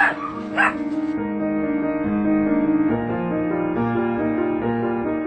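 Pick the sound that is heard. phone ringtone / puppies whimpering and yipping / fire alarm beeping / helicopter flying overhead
puppies whimpering and yipping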